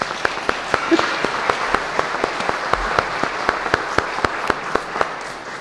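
An audience applauds in a steady wash of clapping, with a few sharp, evenly spaced claps standing out above the crowd throughout, holding at a fairly even loudness to the end.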